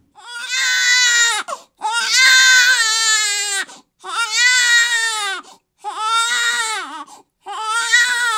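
A baby, the son of a young mother, wails in five long, loud cries, each lasting over a second with brief gasping pauses between them, piercing with no other sounds around.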